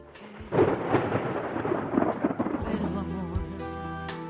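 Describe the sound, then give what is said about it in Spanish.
Steady rain pours down while deep thunder rumbles continuously beneath it, a loud, enveloping storm with no voices present. “Llueve en septiembre, duerme el sol, serena lluvia.”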